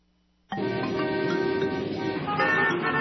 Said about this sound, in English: Traffic. All this traffic. When will it end? Doesn't it seem like there are more cars on the road every day?